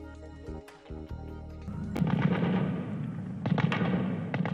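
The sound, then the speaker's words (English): Sharp gunshot cracks ring out in Kabul, Afghanistan, as gunmen dressed as doctors storm a hospital and battle security forces: a few isolated at first, then a denser burst of reports with a rumbling, reverberant tail, echoing off buildings. “Gunfire echoed through Kabul as gunmen dressed as doctors stormed a hospital in the Afghan capital today and battled security forces for hours, killing more than 30 people and wounding dozens in an attack claimed by Islamic State.”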